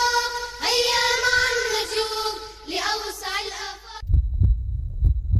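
A sustained harmonic tone, like a held vocal or synth chord, cuts off and gives way to deep, muffled heartbeat thumps pulsing steadily and loudly for the final second or so.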